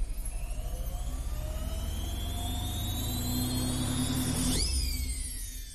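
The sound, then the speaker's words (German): A washing machine drum with a glass door, loaded with socks, spins up, its steady whirring whine climbing in pitch over a pulsing low rumble, then sweeping abruptly downward near the end as the drum slows and comes to a stop. No voices. “Die Trommel drehte sich wieder langsamer und kam schließlich zum Stehen.”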